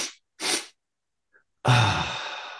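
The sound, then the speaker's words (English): Two short, breathy inhales in quick succession, an inhale then a quick sniff inhale, a brief pause, then a long, airy sigh of an exhale that starts strong and slowly trails off, done as the physiological sigh breathing technique. No talking. “or the physiological sigh, which is a really good one you can do quite easily, where you take in an inhale and then a quick sniff inhale. So double inhale and then a long prolonged sigh.”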